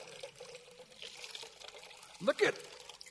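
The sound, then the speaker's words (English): Water dribbles and trickles out of a soaked sponge, just dipped into water, in a steady stream, then gushes in a brief louder splash near the end as it is squeezed. “Man, this thing is getting heavy here. Man, it's just oozing out.”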